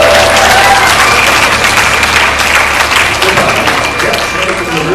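Audience applause for a young boy volunteering to come up onto the stage fills the whole stretch, a dense, steady wash of many hands clapping at a loud, even level, with faint crowd murmur mixed in.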